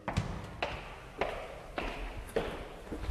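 A table tennis ball clicks back and forth on a table tennis table in a steady rally, about six sharp taps at an even pace, with faint background hum, inside a large red-brick archive storage tower.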